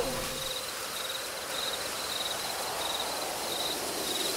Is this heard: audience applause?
no